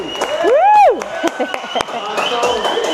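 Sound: audience applause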